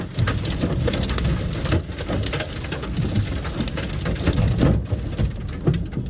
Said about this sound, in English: In Gaithersburg, a tornado went right over this man's car.